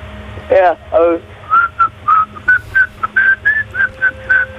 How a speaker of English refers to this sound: Right, you mentioned earlier that you you hum, and apparently you also whistle. Yeah, I'm a bird.